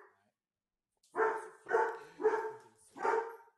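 dogs barking

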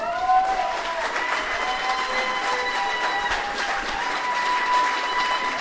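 crowd cheering and applause

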